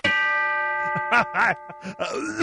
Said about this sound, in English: Where's the bell you have? Do you have the bell? The bell. The bell.